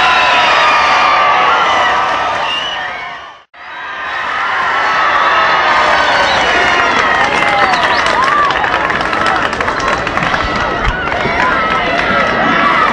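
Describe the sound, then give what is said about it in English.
A large crowd in Fort Worth applauds and cheers loudly and continuously for President Kennedy as he makes his way across 8th Street, with shouts and whoops rising over dense clapping; the sound cuts out briefly before resuming at full strength. “You hear the crowd applauding.”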